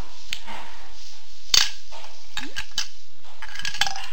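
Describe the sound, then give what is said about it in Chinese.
A small pot for boiling water being handled: light knocks and scrapes, one sharp metallic clank near the middle, and a few faint clinks toward the end, with no talking. “这是小罐嘞，得去烧水啊。”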